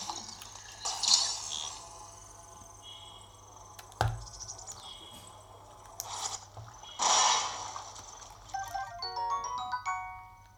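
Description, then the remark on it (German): A character dives headfirst into water with a couple of rushing splashes, set against steady insect chirping, a sharp knock, and a short run of bright chiming tones near the end. “Köpfer ins Wasser.”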